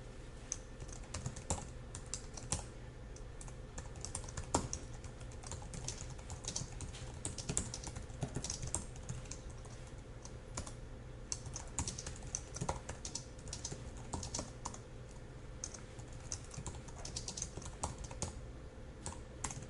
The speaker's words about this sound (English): So let's go ahead and make some space for ourselves. I'm going to start typing.